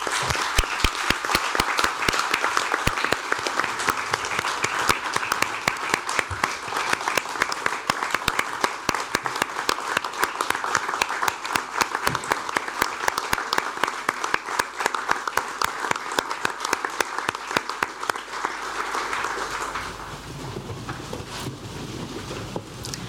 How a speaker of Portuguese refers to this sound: saudade e respeito Almeida Santos, José Lelo, Pedro Coelho e Bernardino Gomes, falecidos este ano há poucos meses, gostaria que os homenageássemos não com um minuto de silêncio, mas com uma salva de palmas, como sei que seria assim que gostariam.